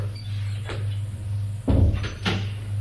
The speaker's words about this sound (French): Arrivé à l'Élysée, le garde le mène vers le président de la République qui se trouve à son bureau. Le garde frappe à la porte, l'ouvre et le fait entrer.